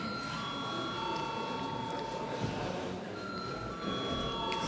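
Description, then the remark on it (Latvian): The Saeima session bell rings before a vote, continuously in a steady, high metallic tone for the whole stretch, with a faint murmur of voices underneath. “Un tāpēc lūdzu zvanu.”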